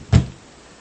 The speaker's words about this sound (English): We walked up the path to the front door. I knocked softly at first.